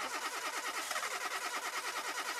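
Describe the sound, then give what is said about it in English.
A car engine cranks without catching after the key is turned, a steady, rapid, rhythmic whirring and clicking from the starter that stays fairly loud throughout, with no voices. “If you get in your car, turn the key and hear this.”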